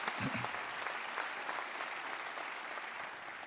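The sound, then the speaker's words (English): A church audience claps steadily in a dense, sustained round of applause for God, with a brief low vocal murmur near the start. “Yeah, you can give God a round of applause for that.”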